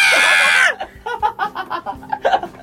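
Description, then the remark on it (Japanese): A loud, shrill human scream bursts out for under a second and cuts off abruptly, followed by a run of short, rhythmic bursts of laughter. “叫んでください。”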